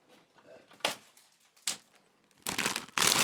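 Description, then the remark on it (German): Crinkling of the plastic packaging of Ölz Minischnecken, small chocolate pastries individually wrapped, as it is opened: a few sharp rustling bursts at first, then louder, sustained crackling of crumpled plastic toward the end, with faint low background sound between. “So, es knistert ein bisschen.”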